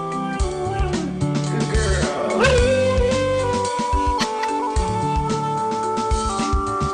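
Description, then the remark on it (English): A female husky's howls and yips, pitch-corrected by an auto-tune app on an iPad into a steady, musical melody, ring out loudly over a full backing track of bass and keys, continuous for several seconds. “She's using the auto-tune on iTunes on the iPad, and she's actually quite tuneful.”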